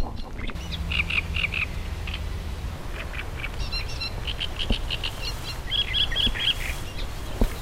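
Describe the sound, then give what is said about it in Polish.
A reed warbler sings in scratchy, chattering phrases of repeated harsh notes over a steady low rumble of outdoor background noise, in early summer. “Proszę Państwa, cieszmy się tym, że nastały te cieplejsze dni, że w końcu lato się zaczęło i możemy w końcu wyjść na dwór i słuchać trzciniaków i innych ptaków.”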